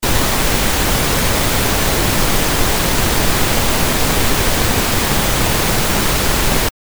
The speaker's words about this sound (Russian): Розовый шум минус 3 децибела.